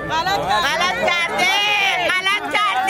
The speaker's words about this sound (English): Everyone in this crowd which formed around us replied with an emphatic no.